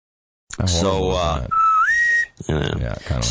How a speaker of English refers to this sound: Sorry. What was that? That was my, that was what my parents called me with. The bosun's whistle? Yeah.